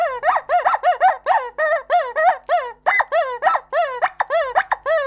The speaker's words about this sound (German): Das Gummihuhn ist ein sehr beliebter Vogel, vor allem bei Quatschköpfen, Spielkinder und sogar bei Hunden. Wobei letztere auf dem Gummihuhn herumbeißen, während das Gummihuhn um sein Leben schreit.